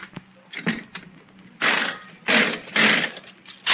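A slot machine clatters and whirs, then bursts of bright metallic jangling as nickels spill out in several loud waves: a 20-nickel win, not the jackpot.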